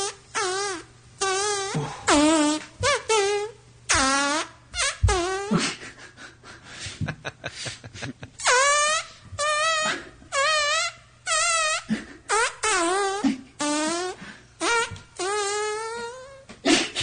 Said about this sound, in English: We couldn't be more excited to welcome the man, the legend, fart musician